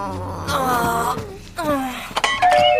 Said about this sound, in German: Die Klingel ist furchtbar. Wir müssen die wirklich reparieren lassen.